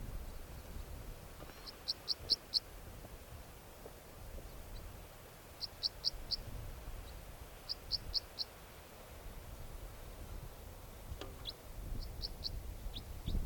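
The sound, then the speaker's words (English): A bird gives type 4 calls, short, sharp, high-pitched call notes in quick bursts of three or four, repeated several times as it flies over towards decoys, over a low, steady rumble of strong wind. “There goes a bird, type 4 calls, going over towards the decoys.”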